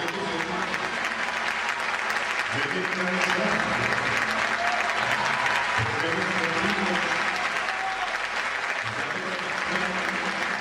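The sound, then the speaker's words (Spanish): Sustained audience applause at a singer's final live performance, in his homeland, a dense steady wash of many hands clapping at an even loudness for about ten seconds with no break, while some voices murmur faintly underneath. “Bueno, es que el aplauso, tenía muchos años de no ir a su tierra.”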